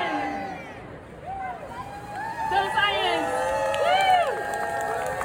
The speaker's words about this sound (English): So we're going to cheer for citizen science and we're going to do our 1 million cheer. 1, 2, 3, 1 million!